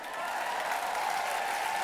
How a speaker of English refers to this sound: Come on, clap like it's a possibility.